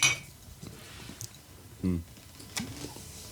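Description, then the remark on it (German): A bright glassy clink of beer bottles opens, followed by a few softer knocks and taps of the beer bottles being handled and set down during a beer break, with faint murmuring in the background. “So ist das. Prost. Prost.”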